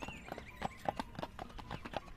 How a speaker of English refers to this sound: The pony's four small hoofs played the jolliest tune on the smooth pike road.